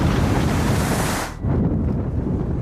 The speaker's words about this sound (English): A huge wave rushes toward Cat.